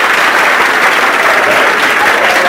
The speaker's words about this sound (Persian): ما تشویقشون میکنیم، به ما خبر میدین تشویقشون کنیم. مرسی.